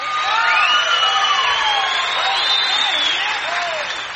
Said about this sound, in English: We're so glad to have him back here at the Ryman Auditorium with us. So what do you say let's give a great big round of applause and show him just how proud you are to see him on this edition of Grand Ole Opry,